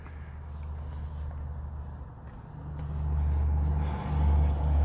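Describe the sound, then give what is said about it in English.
Continuous road traffic heading into town rumbles along without a break, a deep low engine drone that swells louder toward the end as heavier vehicles pass, with no talking. “So you can just hear that it's been non-stop traffic into town.”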